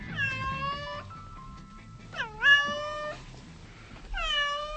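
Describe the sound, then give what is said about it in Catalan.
A cat meows three times in drawn-out, wavering cries, the middle one rising sharply before settling, fairly loud with no talking. “Casolans, dormilegues, sociables i afectuosos, com volen. Emeten diferents sons característics.”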